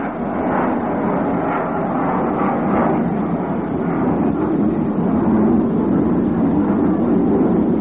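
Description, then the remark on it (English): A steady, broad roar of an airplane passing over a baseball game involving the Mets while the batter backs out and time is called. It holds at a fairly constant loudness for several seconds and swells slightly toward the end, with no voices heard. “He calls down and backs out until a plane gets by.”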